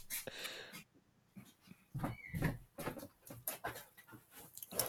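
A pet dog barks in a few sharp, irregular, loud bursts, with some breathy, whining sounds between the barks and no clear speech.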